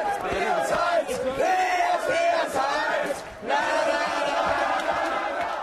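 A crowd of supporters chants and cheers loudly for a tournament winner, many voices shouting together in a sustained, rowdy roar with a brief dip before surging again.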